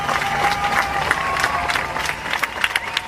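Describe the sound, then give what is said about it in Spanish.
A large crowd in front of the Bataclan applauds steadily at the appointed hour, one week after the attacks, many hands clapping in a dense, continuous patter that holds at an even, moderate loudness throughout, with faint murmuring voices mixed in. “Cuando se cumplió la hora indicada, la gente presente frente al Bataclan comenzó a aplaudir.”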